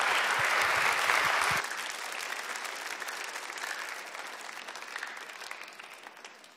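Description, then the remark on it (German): An audience claps together in a dense burst, loud at first and then gradually thinning and fading over several seconds, with no voices standing out. “Also nochmal einen Applaus für alle.”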